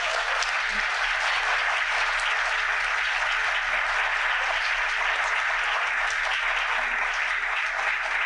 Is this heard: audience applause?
yes